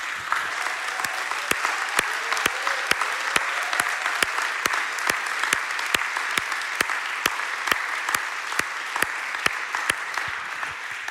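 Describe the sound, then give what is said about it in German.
A crowd breaks into sustained, dense applause for the pastors and staff, many hands clapping steadily and loudly for over ten seconds, with a few sharp individual claps standing out over the steady wash. “und würde gerne zusammen mit euch, euren Pastoren, aber auch allen Mitarbeitern, das sind so viele feine Leute, die ich heute Morgen schon erlebt habe hinter den Kulissen, kommt, lasst uns diesen Personen mal einen ganz, ganz kräftigen Applaus geben.”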